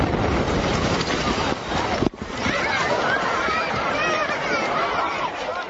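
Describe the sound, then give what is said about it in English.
A car bomb explodes at the Shiite shrine of the Imam Ali in Najaf, Iraq, in 2003 during an interview: a sudden sharp blast cuts through a noisy crowd about two seconds in, followed by frantic shouting and high-pitched screams that continue loudly. “A car bomb explodes at the Shiite shrine of the Imam Ali in Najaf in 2003, as NPR's Ivan Watson conducted an interview there”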